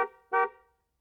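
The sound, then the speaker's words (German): A car driving past outside honks twice in quick succession, the first blast fading out and the second a loud, short toot that trails off into silence. No one speaks. “Da fährt ein Auto draußen vorbei und hupt.”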